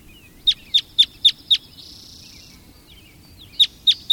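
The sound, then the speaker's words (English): A series of sharp, evenly spaced bird call notes, five in a quick rhythm, then a pause with faint background hum, then three more calls. Red crossbill calls, clear and loud. “Red crossbills can be seen searching for cones on the tops of the trees, climbing around using their feet and bills in the manner of parrots.”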